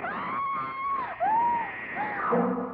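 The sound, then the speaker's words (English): A woman screams in terror on a bed as a knife slashes down at her, a loud, sustained shriek that dips in pitch, breaks briefly, then rises again into another drawn-out wail, with no other voices. “I screamed and rolled over on the bed just as the knife slashed down.”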